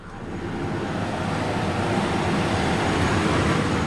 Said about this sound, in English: Nearby, a half dozen big trucks with pumps are lined up outside. This total job will pump about 40,000 barrels of fluid and about 4 million pounds of sand in this well.